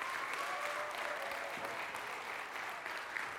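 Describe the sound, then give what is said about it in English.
A crowd claps steadily in sustained applause for the week's sponsors at Falls Creek, dense and even throughout, with a faint tone briefly ringing above the clapping. “If you were one of our sponsors this week, could you please stand up for me? Give them a round of applause too.”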